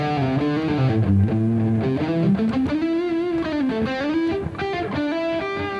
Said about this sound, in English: Yeah, when she pulls back, like, go ahead and keep the gain up. Yeah. And pull back on your volume and just, or play light. So, see, that's what I call bloom. It's, there's distortion, there's harmonic distortion, but it's really